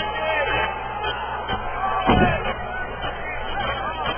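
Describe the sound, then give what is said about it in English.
A crowd at a wrestling match shouts and jeers, yelling "stalling" in a steady roar of overlapping voices, with a few sharper yells and catcalls rising above the babble before settling back to a noisy hubbub. “People want to see some action here. They're yelling stalling. Yeah, the cat calls is coming out now.”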